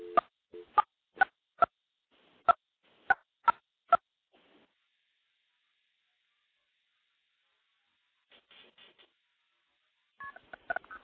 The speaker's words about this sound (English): There's a dial tone. We'll dial 9 for an outside line. Now we're going to dial into my Project MF box.